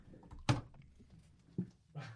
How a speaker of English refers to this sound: He had found the dustpan and brush and was banging it against the door in a way that he expected me to. No, he was just smashing it against the door.